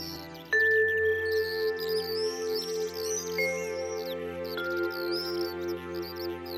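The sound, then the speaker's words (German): Lively birds chirp and twitter cheerfully above a grassy meadow under a clear blue sky, layered with soft sustained chime tones that ring out and linger three times over a low ambient hum. “Es liegt ein fröhliches Zwitschern in der Luft, das dich animieren mag, ein kleines Lied vor dich hin zu summen.”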